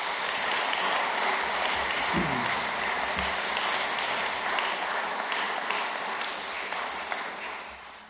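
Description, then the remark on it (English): A crowd applauds the staff team steadily for about eight seconds, dense overlapping clapping that holds strong throughout and tapers slightly toward the end, with no one speaking. “So a round of applause to the staff team, please.”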